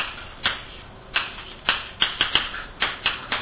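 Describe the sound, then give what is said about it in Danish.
Keys on a computer keyboard clacking in an uneven rhythm as someone types a link, about ten distinct sharp taps with brief pauses between bursts, fairly clear with no talking. “Og så skriver jeg link til det her.”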